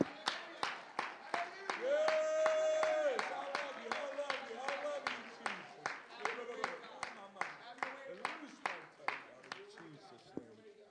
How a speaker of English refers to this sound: In the name of Jesus, if you love the Lord, would you give him a big round of applause? Come on, I know you can do a little bit better than that.